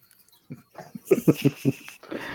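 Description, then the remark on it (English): A dog making a quick run of short, yelping vocal sounds, about four sharp bursts in a steady rhythm, with breathy, wheezy noise before and after. “Guess I got the dog and not the nephew.”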